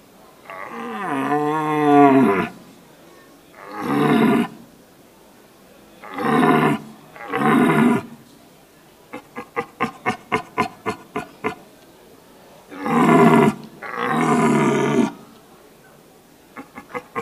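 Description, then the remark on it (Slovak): A human voice imitates a red deer stag's rutting roar: several loud, deep, drawn-out bellows, broken midway by a quick run of short, rhythmic grunts. “Také základne tie štyri, zbíjanie čriedy, odbíjanie bočného jelenia, ale nesmie to byť vyhrážanie, pokojné mrmlanie a také výbojné ručanie, to všetko musí odznieť v tejto disciplíne, ak súťažíme.”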